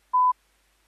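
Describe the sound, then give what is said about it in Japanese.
A single short electronic beep from a telephone keypad while dialing a phone call, clear, lasting about a fifth of a second with silence around it and no talking. “電話をかける。”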